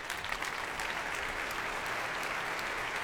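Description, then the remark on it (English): A concert audience applauds steadily as Yuri Tuchinsky, leader of the BBC Philharmonic, takes his place: a dense, even wash of many hands clapping at a constant loudness for a few seconds with no voices standing out. “Well, that applause was for Yuri Tuchinsky, leader of the BBC Philharmonic, taking his place.”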